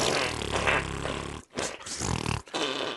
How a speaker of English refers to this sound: Cop that, Hitler. That'd be funny out of context. Just fart noises.